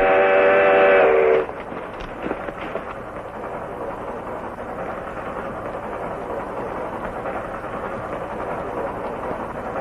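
A loud train whistle blasts for about a second, then cuts off into a steady rumbling roar of a moving train, with no voices.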